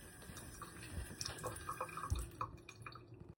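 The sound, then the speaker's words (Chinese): A water tap drips steadily into a sink after being turned off, with soft, irregular plinks of water over quiet background noise for a few seconds before fading out. No one speaks. “咁就由三十这个水龙头开始。”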